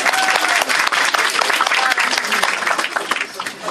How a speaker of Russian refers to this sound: Мы вас поздравляем, мы вас поздравим более, скажем так, официально уже в офисе. А сейчас просто мои аплодисменты вам.